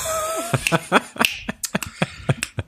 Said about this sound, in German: Wir müssen gleich nochmal klatschen.